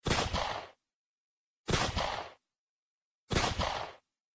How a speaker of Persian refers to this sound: همون شب همه به جز جوان خواب بودن که سه گلوله از خیابون به طرف خونه شلیک شد.